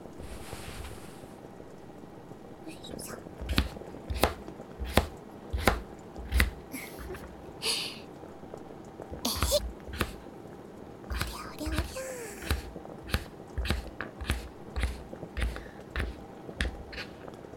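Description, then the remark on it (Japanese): Steady knife chopping of burdock root and daikon radish on a cutting board, crisp sharp thunks repeating at a brisk, fairly even pace, over a low background hum and faint soft murmuring. “ごぼうと大根は少し硬いから早めだけど、丁寧を心がけて。”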